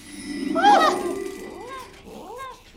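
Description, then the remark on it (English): A cat meows several times in quick succession, with a loud, drawn-out first cry followed by softer, shorter calls. “Why is it meowing over and over like that?”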